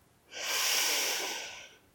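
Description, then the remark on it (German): A single long, deep breath drawn in through the nose, a soft airy hiss that swells steadily and fades after about a second and a half, with no talking; an inhale during a guided breathing exercise. “Wir atmen nochmal gemeinsam ein,”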